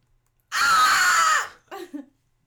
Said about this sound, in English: So, what do you think about those goats that that scream?